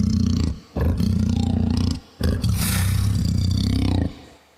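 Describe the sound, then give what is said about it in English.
A leopard's roar, loud and rasping, comes in three sustained bursts separated by short breaks, with a deep rumbling tone underneath and a gritty, hissing edge on top. There is no talking. “First of all, there's a little bit of aggression because it's a big creature, so there's a leopard in there.”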